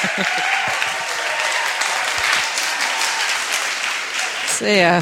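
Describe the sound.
Loud, sustained audience applause at the Flame prize giving, a dense wash of many hands clapping at an even level, ending as a voice starts speaking in the final half second.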